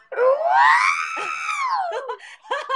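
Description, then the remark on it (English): A person vocally imitates the dying scream of R2-D2 from Star Wars: one long, high, warbling wail that rises then slowly falls, followed by a few short chirpy vocal bursts, loud. “You know, I can do my R2-D2 scream.”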